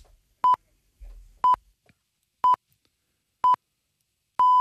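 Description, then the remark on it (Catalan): A radio time signal: five short, clear electronic pips spaced a second apart, the final one held longer, sounding alone with no talking. “Sentim els senyals horaris de les 10, però continuem parlant de seguida del butlletí,”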